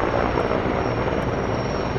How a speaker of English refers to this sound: people in Durango woke up to this, the sound of firefighting air tankers flying in from the airport outside town